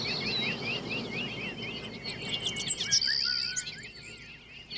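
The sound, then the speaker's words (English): Many birds in a garden chirp and tweet busily at once, a dense overlapping chorus of quick high calls and whistles, with a low rumble of background noise beneath and no talking. “Perkins, gave Imogene a donut, then decked her out with several more and sent her into the garden to feed the birds.”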